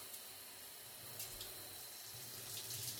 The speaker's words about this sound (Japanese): まずは髪を洗っていきますよ。 シャワーかけますよ。よいしょ。